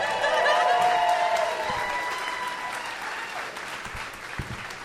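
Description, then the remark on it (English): An audience applauds steadily as three people come up on stage at a show, the clapping loudest at the start and slowly tapering off, with some cheering tones mixed in and a few sharp claps near the end. “They're usually getting more applause during this part, though.”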